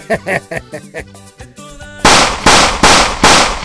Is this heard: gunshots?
yes